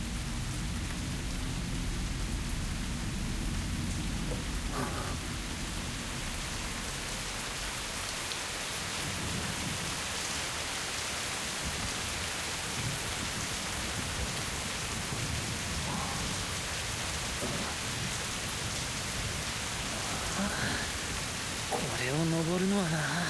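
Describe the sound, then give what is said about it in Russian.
Steady rain pours down continuously, a dense, even hiss of drops hitting surfaces, with a faint voice briefly surfacing near the end. “Там вы сможете переждать дождь.”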